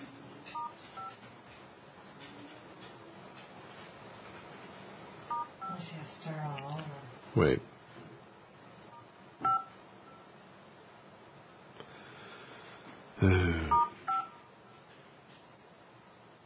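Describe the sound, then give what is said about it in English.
Touch-tone keypad beeps from a phone sound in short bursts, a few scattered presses and a quick cluster near the end, clear over a background of muffled conversation. “Oh, yeah, give me a hit star.”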